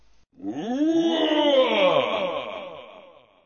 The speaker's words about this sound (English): This is that same roar for the same time, but in English, okay?